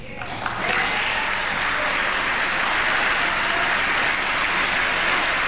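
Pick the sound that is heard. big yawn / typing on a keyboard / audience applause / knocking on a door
audience applause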